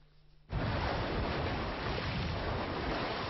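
After a brief quiet moment, a loud, steady roar of wind and lapping waves rushes in on the shore of Lake Balaton at Balatonfenyves in windy weather, continuous, with no voices.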